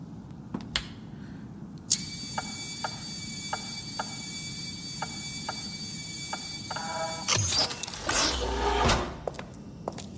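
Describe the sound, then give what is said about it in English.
A door opens with a sustained mechanical whine and a steady series of light clicks, then a louder rushing, sliding burst near the end. No one speaks. “Just the door, right?”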